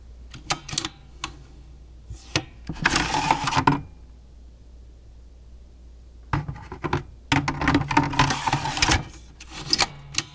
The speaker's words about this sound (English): Up first, we have the sound of the latching mechanism on a PowerMac G4 Cube.